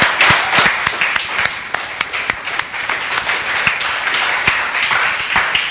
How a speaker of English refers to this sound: So if we could just give a round of applause.